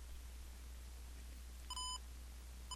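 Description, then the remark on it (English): A short electronic menu beep from an Olympus 320M digital voice recorder as its arrow-up button is pressed in the settings menu, followed by the start of another at the very end, over a low steady hum with no talking. “Press OK, arrow up one time, and you'll hear a different beep when you arrow up, and then I'm going to press OK again.”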